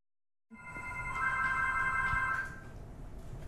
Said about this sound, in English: Yes, I can hear the phone ring now. Which is exciting.